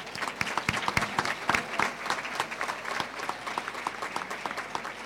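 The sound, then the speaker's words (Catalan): An audience applauds steadily for the newly named president of the Caixa Rural and its Foundation, many hands clapping in a dense, continuous patter with sharper claps popping out, holding roughly even loudness throughout with no voices over it. “Un fort aplaudiment.”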